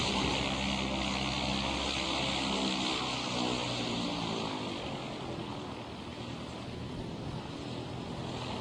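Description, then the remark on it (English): A small propeller plane that has just landed on an airfield: its engine drones steadily, a rough, buzzing hum with a low throb that eases slightly partway through as the aircraft rolls along the ground. “A small plane has just landed.”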